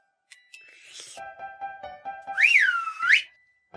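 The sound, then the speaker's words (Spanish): A bright whistle rings out alone as a signal, first in short steady tones and then a loud swooping blast that dips and rises in pitch before cutting off abruptly. “Al escuchar el silbido, los ratones salían disparados, cada uno por su lado.”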